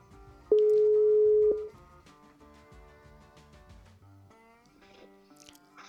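A single steady telephone ringback tone sounds once for about a second, loud, over a soft background music bed that carries on afterward; it is a phone call being placed to a singer-songwriter during an Italian program made in Germany.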